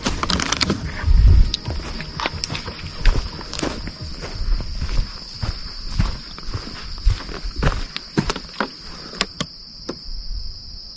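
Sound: footsteps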